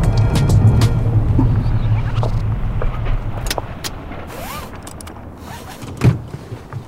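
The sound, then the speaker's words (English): A car pulls slowly into a motel parking lot, its engine rumbling low, then easing off as it comes to a stop, with light crunches, clicks and a soft thud near the end. “they were just pulling into a motel parking lot when they noticed a mysterious car that's been following them the whole time.”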